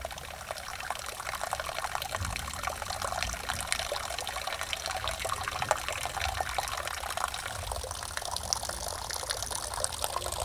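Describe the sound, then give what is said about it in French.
A river in flood rushes steadily and loudly, a dense, continuous wash of flowing water with bright splashing texture throughout and no voices. “La rivière, ça fait 4 fois qu'elle se fâche et c'est pas fini.”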